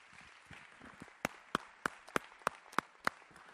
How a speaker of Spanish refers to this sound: A ver, vamos a orar por ellos, pero queremos reconocerlos en esta mañana y ponernos de pie y darles un aplauso por el esfuerzo a ellos y a sus padres.